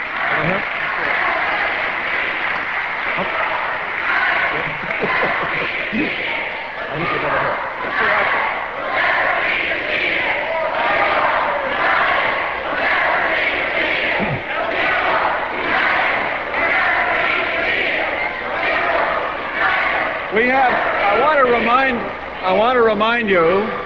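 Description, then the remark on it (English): A large crowd of protesters roars and chants continuously at a discussion event with an invited guest, with many overlapping voices and cheering; toward the end a woman in red shouts loudly above the din in sharp, wavering bursts. “I do want to remind you, particularly the woman with the red shouting so loudly, I do want to remind you that we have a guest here who we invited to engage in discussion.”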